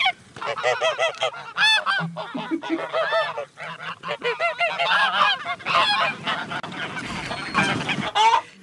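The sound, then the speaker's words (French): Geese honk loudly and repeatedly, a dense overlapping chorus of nasal calls from a flock, continuing without pause for several seconds with no voices. “là c'était une oie plutôt.”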